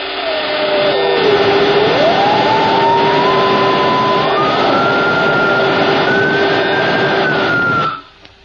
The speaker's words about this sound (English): The next morning, both men were strapped into Horn's infernal machine. There was a great crackling and sparking.